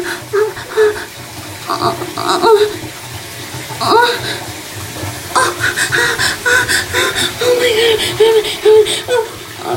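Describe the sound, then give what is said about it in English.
Water runs steadily, a continuous splashing hiss like a tap or shower, with faint voice-like sounds rising and falling over it. “So the water's colder because I was trying to get really sweaty.”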